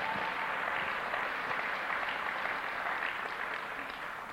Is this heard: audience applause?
yes